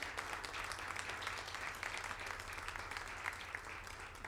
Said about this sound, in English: je voudrais faire un gros bisou de remerciement à la Saugrenue de nous avoir permis de participer à cette chose. Bravo à eux, on peut les applaudir, bien sûr.